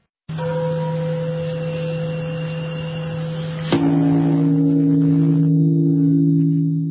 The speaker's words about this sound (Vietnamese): Tiếng chuông chùa ngân vang từ chánh điện chùa Bổ Châu Tôn Nghiêm. Giữa cái tĩnh mịch chốn đại ngàn, tiếng chuông sau một hồi lan xa vang vọng, lại sâu lắng như đánh thức từng ngọn cỏ và làm bừng tỉnh cả một vùng thị trấn nhỏ.